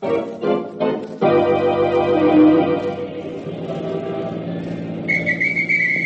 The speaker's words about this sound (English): Hey, you cabbie. Didn't you hear me blow me whistle?